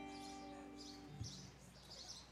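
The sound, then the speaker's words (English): Birds chirp softly outdoors near Minnehaha Falls, a few quick high tweets repeating about every half second over a faint low hum, with no one talking. “We hear children, I hear birds, I hear the Minnehaha Falls.”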